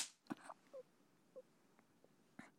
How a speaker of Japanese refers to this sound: ありがとうございます。もっと頑張りますから、ビンタで教育してください。